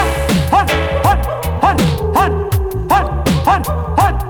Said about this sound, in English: Sometimes you hear a lot of talking, and outside you hear my little dog barking.